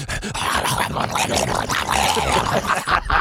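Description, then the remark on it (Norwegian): A person imitates a Staffordshire Bull Terrier, letting out a steady run of gruff, growly barks and yips for a few seconds, with no other talking over it. “Vi har en produsent som er veldig god på å etterligne hund. En Staffordshire Bull Terrier.”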